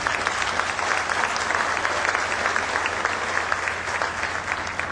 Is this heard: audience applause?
yes